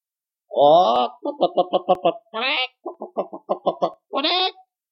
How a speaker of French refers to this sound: Quelques pas plus loin, ils rencontrèrent une poule.